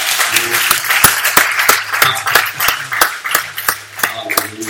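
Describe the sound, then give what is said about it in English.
An audience at a Christian worship service claps hands together with sharp, fairly regular beats, roughly in rhythm, over a dense wash of scattered applause and faint crowd murmur, loud. “Come on, clap your hands.”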